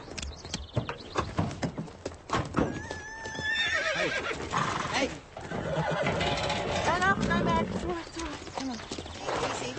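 horse neighing

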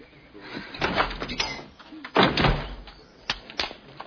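door banging

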